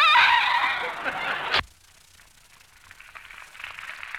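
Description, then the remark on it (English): A parrot named Polly lets out a loud, harsh, raspy squawk, lasting about a second and a half before cutting off abruptly into quiet. “Get that bird out of here, sis.”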